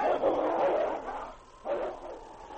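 King, a husky, fights a wolf and grabs it by the throat, with rough, mid-pitched snarls and growls in two surging bursts, the second starting after a brief lull. No one speaks over the noise.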